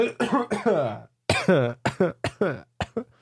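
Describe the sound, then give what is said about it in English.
A person coughs in a loud, hoarse fit, starting with a couple of longer strained, voiced coughs, then a quick run of short, sharp coughs with brief gaps between them. “I have to cough again.”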